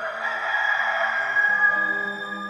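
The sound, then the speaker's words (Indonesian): A rooster crows in one long, drawn-out call, fairly loud, with low sustained tones humming underneath throughout. “Ingat Petrus, sebelum ayam bekokok hari ini, lo bakal 3 kali nyangkal saya.”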